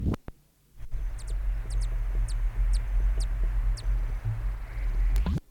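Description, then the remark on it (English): A bird gives about eight sharp, high chip notes, some in quick pairs, spaced irregularly over a steady low rumble, in its territory at about 10:30 as another male bird flies by. No one speaks. “Those chips notes were given as another male flew by the territory.”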